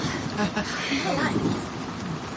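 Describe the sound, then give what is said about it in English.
Steady, dense rain pours down with a low rumble of thunder rolling beneath it, a continuous wash of noise at moderate loudness throughout. “No, we don't have any extra umbrellas. But don't worry, I'm sure the rain will stop soon.”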